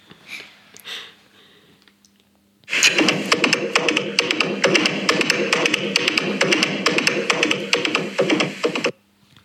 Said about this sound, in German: Es war Galoppieren von einem Ross.